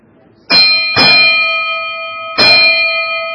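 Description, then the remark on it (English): A ship's bell rings three times to sound three bells, a quick pair of loud metallic strikes followed after a pause by a single one, each leaving a long, bright ringing tone that overlaps the next. “Close. Three bells.”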